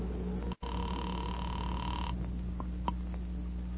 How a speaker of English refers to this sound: I walked across the street, stepped into a phone booth, and dialed my own number.